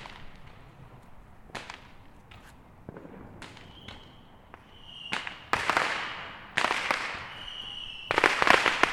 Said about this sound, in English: Fireworks I'm seeing are definitely the illegal kind here in California.